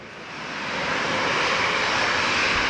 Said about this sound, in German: Also es gibt ja auch einige Flugzeugtypen, die haben sehr edlen Sound. Es gibt welche, die sind einfach nur brutal laut.